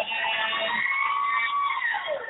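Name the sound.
ambulance siren sound effect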